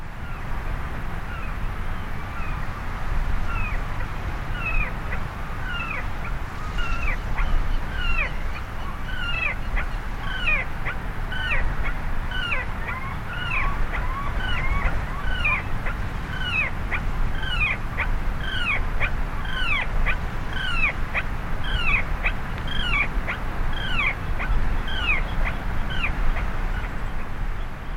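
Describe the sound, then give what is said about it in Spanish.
An alcuela calls at its nest with the microphone placed right up close, a long steady series of short, rising, whimpering notes repeated every half second or so over a low rumbling background, with no voices. “Se oye así como en la intimidad de su nido, le pusiste el micrófono, o cómo se le hace para que se oiga así de bien.”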